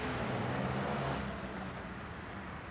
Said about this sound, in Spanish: La Barde empuja a Franco en la camioneta. Daniel acelera y la camioneta se marcha.